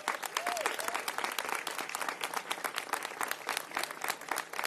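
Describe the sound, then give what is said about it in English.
Steady applause from a sizable audience in San Francisco, responding to a speech about the city adopting the Convention on the Elimination of All Forms of Discrimination Against Women: dense overlapping claps sustained at an even level for several seconds, with a faint whistle rising briefly near the start. “I'm going to pause for applause there.”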